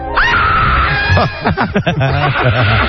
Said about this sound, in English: Good scream. Wow.